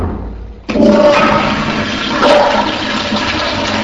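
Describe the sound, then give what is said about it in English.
A toilet flushes with a sudden loud whoosh of rushing water that holds steady, gurgling and swirling throughout, with no one speaking. “38,325, and that's gallons per year of water that get flushed down the toilet per year for a family of five, which is a lot of water, you know?”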